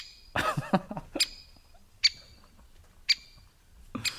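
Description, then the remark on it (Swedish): A woodpecker's drill of squeaky, wheezing calls: a burst of grating notes, then single sharp squeaks spaced about a second apart, uneven like a creaking pump, clear against a quiet background. “Hackspettens drill kan liknas vid en strulig pump.”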